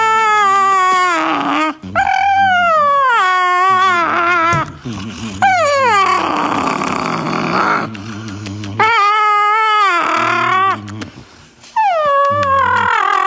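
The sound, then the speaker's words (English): A dog howls and whines in long, wavering, high-pitched wails that rise and fall, broken by short gruff grumbles and a noisy breathy stretch in the middle, loud and continuous. “Here's the grumpy dog.”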